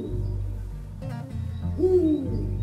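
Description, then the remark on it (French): A single owl hoot, a low, breathy tone rising then sliding down, heard over a steady low rumble with a brief rustling crackle just before it. “Nous sommes les hiboux du gang Perlimpinpin.”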